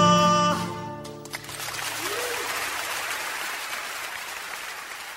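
A performance of the traditional song 'The Rocky Road to Dublin' ends with its final sung notes ringing out briefly, then an audience bursts into steady, sustained applause, a dense wash of clapping that holds at an even level until the end.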